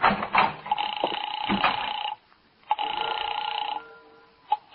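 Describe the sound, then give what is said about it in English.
A telephone rings in two long, warbling electronic bursts separated by a brief silence, loud, with a short click or voice-like sound at the very start. “Okay, here, take it. It's ringing now.”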